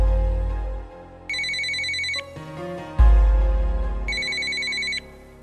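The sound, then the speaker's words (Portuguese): A phone call to a friend rings twice in bright electronic bursts, each under a second, with a pause between, over deep low thumps and a rumbling background. No one answers and no voices are heard. “Porra, mano, o cara não atende o telefone, velho. Tentar ligar aqui de novo.”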